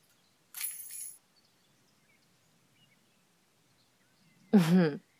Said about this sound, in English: What did I just do? Oh, I just threw our car keys out in the middle of that giant field.